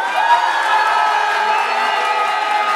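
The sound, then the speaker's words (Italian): A studio audience on a game show bursts into loud, sustained applause on a count of three, measured with an applause meter reading 91, mixed with cheering and whoops, a dense steady roar of clapping and shouting that holds for about three seconds. “Allora, uno, due, tre, applauso.”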